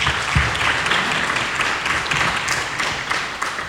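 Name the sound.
round of applause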